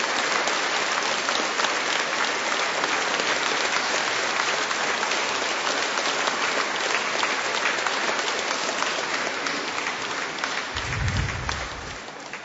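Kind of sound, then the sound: crowd, audience applauding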